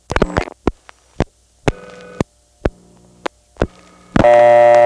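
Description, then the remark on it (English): A telephone line ringing tone on a call to the telephone repair service that keeps ringing unanswered: short buzzing tone bursts repeating between sharp clicks, ending in a steady, louder continuous tone. No one speaks. “It just keeps ringing.”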